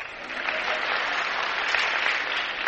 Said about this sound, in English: What the hell are you applauding for? That's like wildly applauding hell, you know.